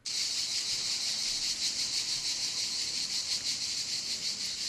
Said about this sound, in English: When I think of cicadas, I think of this noise.